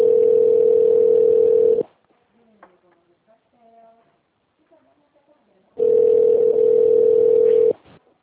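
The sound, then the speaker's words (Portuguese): A steady telephone connecting tone sounds twice while a call to Anexo's phone line is connected to extension 1202, each long beep lasting about two seconds at a single mid pitch, with a few seconds of faint quiet line noise between them. “Conectando.”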